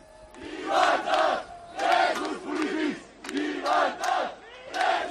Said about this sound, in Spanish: Son los gritos desde las calles de Barcelona, literalmente en llamas, ardiendo contenedores, ardiendo algunos coches y los gritos de los violentos que de momento le han ganado en la batalla a la policía